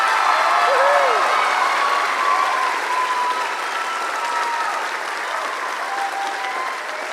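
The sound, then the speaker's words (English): Sustained audience applause for the Joyful Sounds Choir after their musical, a dense, steady wash of many hands clapping, with faint voices and cheers mixed in, tapering off slightly toward the end. “Why don't you stand up so we can give you a big round of applause.”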